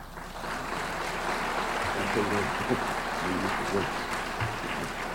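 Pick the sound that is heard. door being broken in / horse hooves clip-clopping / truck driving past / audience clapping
audience clapping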